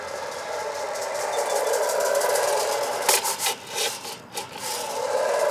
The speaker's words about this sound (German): hören eine Seilbahn. Sie macht viel Wind.